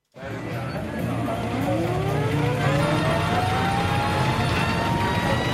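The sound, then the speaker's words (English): A Stinson 165 fairground band organ, Treveris, plays loudly and steadily, a dense wash of sustained tones with one note sliding slowly upward in pitch, with no talking over it. “Stinson 165 band organ Treveris.”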